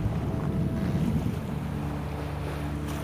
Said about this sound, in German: Wenn eine Welle steigt, atmest du ein. Wenn sie fällt, atmest du aus. Lasse deinen Atem sanft und gleichmäßig mit den Wellen fließen.